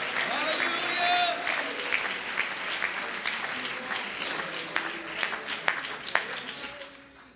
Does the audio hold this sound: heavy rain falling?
no